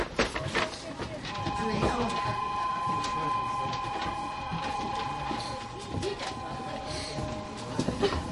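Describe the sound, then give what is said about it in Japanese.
A Shinkaisoku rapid train bound for Toyohashi idles at a busy platform at Nagoya station before its 14:50 departure, its steady electric hum and high whine running throughout, with muffled voices and occasional clanks in the background. “新快速豊橋行き、まもなく発車いたします。扉閉まります。”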